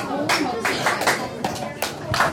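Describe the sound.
A teacher's rhythmic hand-clap pattern calling a fourth-grade class to order at PS 51, class 4302: about seven sharp, crisp claps in a quick syncopated sequence, with children's voices chattering underneath.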